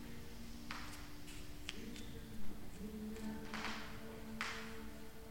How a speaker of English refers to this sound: Look, creaky floorboard. Hopefully that was a floorboard, not a creaky joint.